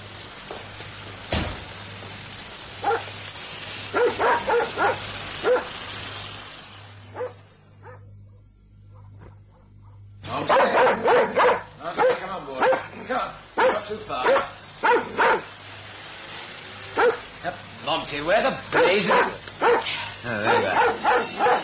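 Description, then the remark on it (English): A dog barks repeatedly in sharp bursts, loud, with a brief lull midway before the barking resumes more intensely, and a person speaking among the barks. “And there goes the dog.”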